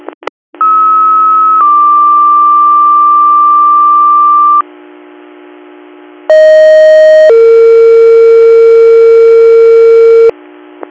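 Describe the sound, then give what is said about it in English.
A sequence of loud, steady electronic fire dispatch paging tones for the Campbell Fire department: a long high tone and a longer lower one, then a brief gap, then two more sustained tones at different pitches, with no talking. “Campbell, Campbell Fire, disregard your tones.”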